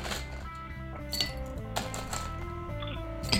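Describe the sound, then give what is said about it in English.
Ice cubes clink into a glass as it is filled with ice for a drink: a handful of sharp, bright knocks spaced irregularly, each leaving a short glassy ring, with no voices. “Ice is going in there. Fill it.”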